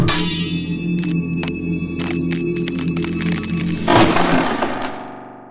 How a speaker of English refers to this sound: The other's parry was almost lazy. When the blades touched, the steel shattered.